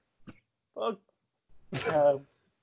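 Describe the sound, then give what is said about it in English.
A couple of short, rough coughs, followed by a longer voiced, throaty groan. No clear words are spoken. “Bad timing to cough.”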